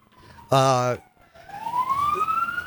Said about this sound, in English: Whoa, your ambulance is in the background.